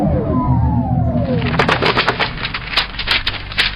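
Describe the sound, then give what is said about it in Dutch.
A loud automatic machine whirs with falling whistling tones, then breaks into rapid, rattling mechanical clatter as it drops a bundle of papers into its receiving tray, a dense stream of sharp clicks and bangs over a steady low hum. “Alles automatisch. Jawel. Maar het maakt zo'n lawaai.”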